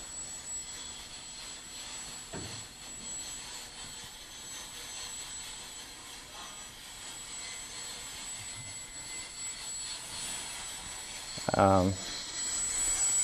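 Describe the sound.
A steady, droning whir of the rotors of a Javiator quadrotor helicopter controlled by Java software runs throughout at an even level, with a short burst of a voice breaking in near the end.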